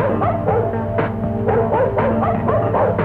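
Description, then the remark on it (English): A dog, Wonder Dog, barks repeatedly in a quick, steady rhythm, about six or seven loud yaps over a constant humming background, with no one talking. “Well, that's Dog Wonder. Wonder Dog himself.”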